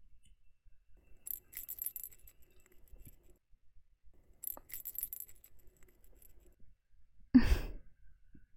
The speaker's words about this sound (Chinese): 平时都是在电话里面听到这个铃铛的声音，今天倒是响在耳边了。